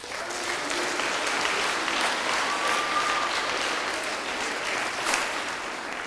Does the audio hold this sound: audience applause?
yes